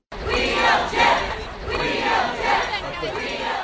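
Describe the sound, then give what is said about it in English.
An abortion rights protest crowd outside the Supreme Court on a Monday night, just after Trump made his selection, chants in unison, loud and steady, with rhythmic swells that repeat roughly every second. The many voices blend into a rough, massed roar. “On Monday night, outside the Supreme Court, an abortion rights crowd gathered to protest just after Trump made his selection.”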